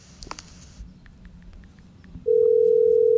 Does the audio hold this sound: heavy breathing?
no